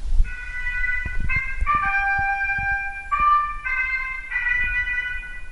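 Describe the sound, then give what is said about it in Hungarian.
A mechanical clock figure, the horn player that starts the sequence after a door opens, lifts its horn with a mechanical movement and blows a short melodic call of sustained, bright notes at several pitches in separate phrases, over a steady low rumble of background noise with no talking. “Ő felemeli a kürtjét mechanikus mozgással, és megfújja.”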